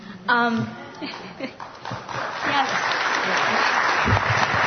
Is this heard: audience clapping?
yes